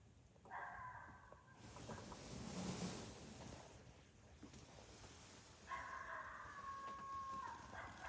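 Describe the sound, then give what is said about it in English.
Two drawn-out coyote challenge howls sound, a short one first and a longer, steadier wail a few seconds later, over a steady rushing outdoor background with no talking. “It's a challenge, Al. For what? For a coyote.”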